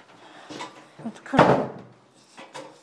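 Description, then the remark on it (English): The main front door of a house in Birmingham swings shut with a single solid thud and brief rattle, surrounded by quieter shuffling and handling noises before and after. “This is the main front door. We're going to go in. And then we've got a second door that brings us in.”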